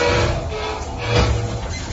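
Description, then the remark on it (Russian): A steady low rumble of a train beginning to move, with a faint mechanical hum on top that swells briefly midway, continuous, with no voices; snow is falling outside the window. “Поезд тронулся, и за стеклом уже падал снег.”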